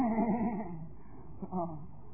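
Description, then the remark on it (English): A person imitates a horse's neigh with a wavering, breathy whinny that starts loud and trails off, followed by a softer voiced sound near the end. “When they came out from the womb, they didn't say, how do you as a horse go?”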